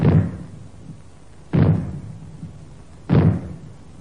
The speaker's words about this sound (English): When fallout is expected, you will hear three bangs in short succession. They will be sounded by means of maroons like this.